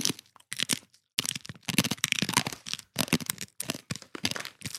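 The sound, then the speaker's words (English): Loud crunching of someone biting and chewing a hard snack, a rapid series of sharp crackling bursts separated by brief pauses, with no talking. “This crunch was really brutal. Yesterday, honestly. Just dive back in, bro. Almost broke my teeth.”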